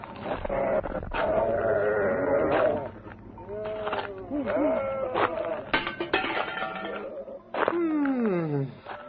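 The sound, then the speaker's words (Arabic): A flock of sheep bleat over and over, several wavering, overlapping calls rising and falling, with a final drawn-out bleat trailing downward near the end. “أمتلك قربة في كتفي وقصعة وسط هذا الغنم، فأما القربة فهي لي دون غيري، وأما القصعة فهي للشاة إن ضمئت، وللكلب إن عطش، وللسائل إن طلب.”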